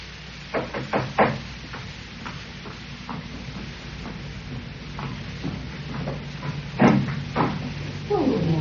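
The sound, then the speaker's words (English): A postman knocks at the front door in the morning: a quick series of knocks, a few sharp raps close together, then another short pair of knocks later over a low steady background hum. “Next morning, I was having breakfast when I heard the postman knock at the door.”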